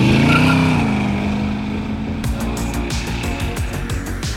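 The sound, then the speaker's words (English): A car engine revs loudly, its deep droning pitch rising and falling, then settles into a steady rumble as the car drives along, with faint rhythmic ticking sounds. “Now, I'm the type who likes to drown out the sound of my car with music and podcasts”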